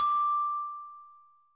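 A single bright bell chime rings out once with a sharp attack, its clear tone lingering and fading away over about a second, alone with no talking; the bell is the cue to read words back in a French reading lesson.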